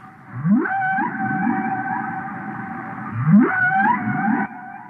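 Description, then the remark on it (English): Humpback whale calls sound loud: long, eerie tonal moans with rising upsweeps, two drawn-out phrases layered over deep, repeated swooping groans, with no one talking. “The calls of the humpback whale, as heard on many a New Age relaxation tape.”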